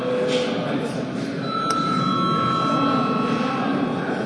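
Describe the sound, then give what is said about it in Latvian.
A parliament chamber bell, rung to call registration mode before a break, rings in a steady, sustained high tone for several seconds, sounding over a continuous murmur of people talking. “Tāpēc lūdzu zvanu, lūdzu reģistrācijas režīmu.”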